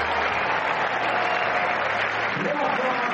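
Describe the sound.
A large tennis crowd applauds steadily, a dense, loud wash of clapping that holds at an even level for the whole stretch, with indistinct voices blended into the roar.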